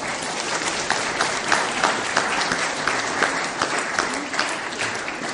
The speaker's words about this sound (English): Firstly, can we just give a round of applause and thanks for all these wonderful flowers?